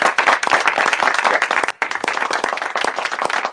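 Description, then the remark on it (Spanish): A crowd applauds steadily, dense overlapping claps forming a loud crackling wash that pauses very briefly midway before resuming with the same intensity. “Pero un aplauso.”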